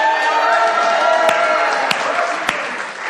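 An audience claps and cheers in a steady, dense wash of applause with scattered whoops and raised voices, a few sharper claps popping out above the roar throughout.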